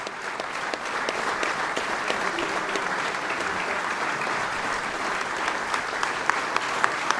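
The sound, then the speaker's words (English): Sustained applause from a large ceremony audience, with President Trump among those applauding David Bellavia: a dense steady wash of clapping with occasional sharper claps standing out, continuing evenly throughout without voices. “President Trump among those applauding David Bellavia.”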